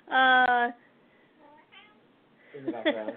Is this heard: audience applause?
no